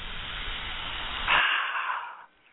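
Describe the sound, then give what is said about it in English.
A sharp hiss bursts out over a steady background rush, then a bright carbonated fizz fades over about a second as a can of wine is cracked open. “Listen to the fizz of that wine.”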